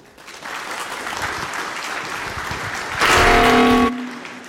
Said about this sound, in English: So please have fun with the talk. LibObscura, cameras are difficult, and LibObscura is the friendly camera library. Please enjoy the talk with a round of applause